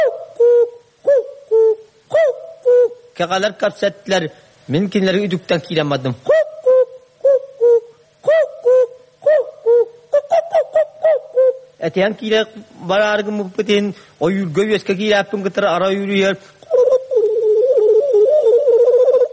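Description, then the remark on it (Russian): A singer performs a Yakut hunter's song imitating bird calls, with short hooting and cooing bursts, quick warbling trills and sliding tones. The voice is loud and comes in rhythmic runs with brief pauses. “А вот еще образец якутского пения – песня охотника, подражание голосам птиц.”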